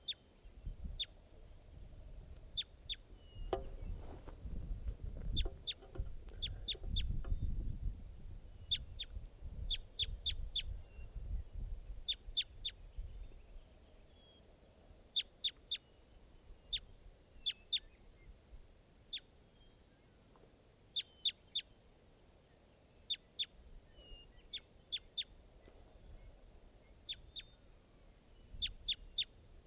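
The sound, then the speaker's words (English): A foraging bird calls with short, sharp, high clucking notes in quick clusters of two or three, repeating steadily throughout, over a low rumbling background that fades after the first half. “Bird's now foraging.”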